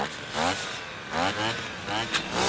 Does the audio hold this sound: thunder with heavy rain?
no